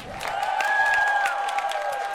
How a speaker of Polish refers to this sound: Więc tak, dla jedynki czerwonej brawa. Dla szóstki zielonej brawa.